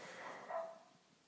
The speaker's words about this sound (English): I think everyone on this street has a dog, and you wake up to this in the morning. Isn't it lovely? There's a dog next door, a dog the other side, dogs across the street.